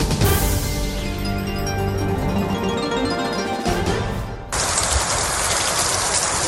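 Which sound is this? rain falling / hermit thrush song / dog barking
rain falling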